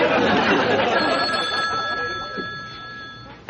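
A telephone bell rings steadily, its bright metallic trill sustained over a busy background hum before cutting off at the end.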